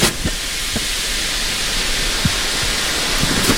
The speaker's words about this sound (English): The whole oven hissed with steam once the water hit the hot rocks.